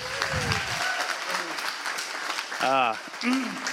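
An audience claps steadily for several seconds, a dense, even patter of many hands, with a loud whoop or cheer rising out of the crowd near the end.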